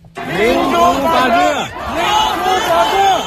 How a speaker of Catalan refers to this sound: Són els crits de centenars de persones liderades per grups de joves i estudiants que van sortir al carrer ahir a la capital xinesa demanant democràcia i llibertat d'expressió.